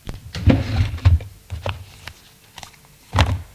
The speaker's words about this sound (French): Ouvre un tiroir et en sort un petit carnet de cuir rouge.